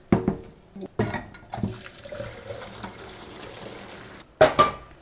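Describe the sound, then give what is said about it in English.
A few clunks of a pot, then a steady rushing, splashing pour as hot blanched beans and water tumble onto chopped dill in a big bowl, ending with two sharp knocks of metal. No talking. “I'm pouring the hot beans right on top of my chopped up dill in a big, big bowl.”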